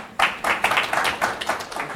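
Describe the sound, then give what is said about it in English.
An audience breaks into applause, a dense, steady wash of many hands clapping at once that starts abruptly and carries on at a moderate level throughout. “Don't applaud.”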